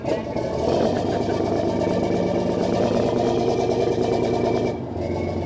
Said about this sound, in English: The fishing vessel Sea Hound docks at the Chatham Fish Pier on Cape Cod, Massachusetts, to unload her catch as a huge steel bucket swings down onto her deck.